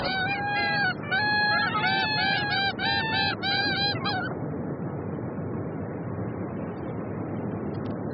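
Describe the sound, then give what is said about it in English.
Belcher's gulls give a loud run of harsh, nasal, repeated calls over a steady roar of wind or surf; the calling stops midway, leaving only the rushing background noise. “Belcher gulls, common killers of young chicks.”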